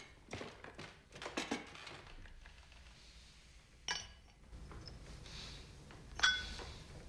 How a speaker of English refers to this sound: In uniform, with his sword at his side, he sits at a table and pulls the decanter of brandy towards him. She sits as he pours himself a drink.